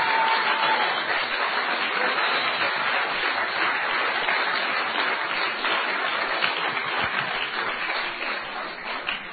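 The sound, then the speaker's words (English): Sustained applause from a crowd clapping for the teachers after a children's costumed performance, a dense steady patter of many hands clapping at once that stays loud throughout and tapers slightly toward the end. “Should we give a big clap to the teachers as well?”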